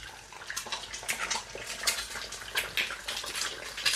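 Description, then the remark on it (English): Two eggs fry in a pan with a steady, bright hissing sizzle, broken by irregular crackles and pops throughout. No voices are heard. “And you can hear that really nice kind of crispy crackling sound.”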